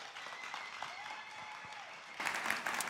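A church audience at The Rock applauds steadily for one of its pastors, a dense wash of many hands clapping with a few faint whoops, swelling louder toward the end.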